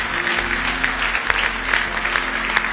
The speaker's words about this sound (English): Give him a big hand clap of praise tonight if you love him. With all your heart.